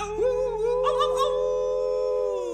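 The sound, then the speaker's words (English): A single long coyote-style howl at the moon swoops upward, then holds a steady, ringing pitch for a couple of seconds, loud, with no talking. “We're gonna hoop and holler and howl at the moon.”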